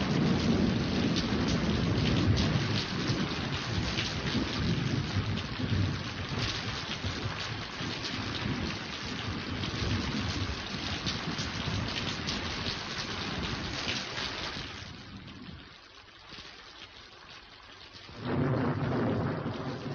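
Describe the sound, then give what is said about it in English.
Heavy rain pours steadily with deep rolling thunder rumbling underneath; the downpour briefly eases and quiets near the end before surging back loud. “All I need now is to have it start raining.”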